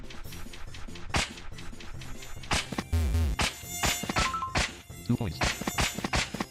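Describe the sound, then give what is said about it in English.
Whining mosquito buzzes weave through a busy, loud mix, broken up by sharp swatting slaps and clicks at irregular intervals, with no talking. “Keep looking for mosquitoes. There's more.”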